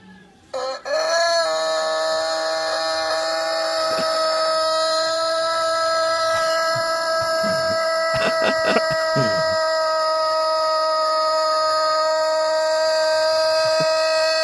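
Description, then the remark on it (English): A rooster crows in one astonishingly long, unbroken call, holding a loud, steady, bright note for well over ten seconds, with a few faint clicks and rustles partway through. “Here's that rooster.”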